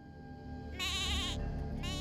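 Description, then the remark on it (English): Livestock bleating in wavering, nasal cries, one long bleat followed by another starting near the end, over a steady low rumble with no talking. “At first, he thought they were human, but as he sat up and reached for his glasses, he recognized the familiar bleats and moans.”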